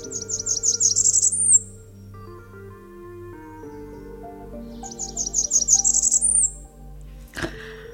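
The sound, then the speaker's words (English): A high, thin bird call rings out twice, each a quick series of piercing chirps ending on a note that slides sharply upward, over a low, steady droning background. “But the last note slides impossibly high with an urgency that sounds like the bird is being strangled.”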